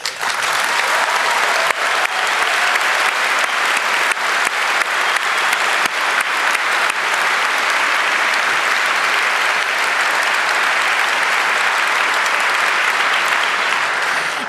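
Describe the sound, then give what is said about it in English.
A large crowd at a congress breaks into loud, sustained applause thanking the volunteer helpers, a dense wash of clapping that holds steady at full strength for about fourteen seconds with no voices. “So let's thank all the angels, even those we couldn't mention here, with a thundering round of applause again.”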